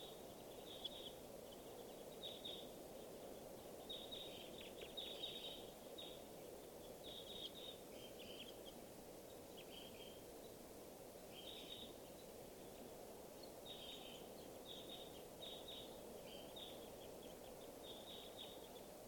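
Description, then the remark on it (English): Flight calls of many crossbills, sounding like Type 2 crossbills, with birds flying over to a watering area: short, sharp high chips repeated in loose clusters throughout, fairly faint over a steady low rushing background. No one speaks. “So I see lots of crossbills here.”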